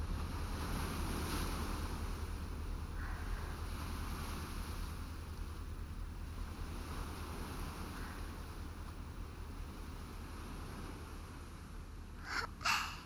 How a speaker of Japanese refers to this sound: 潮の匂いと波の音が聞こえてきますね。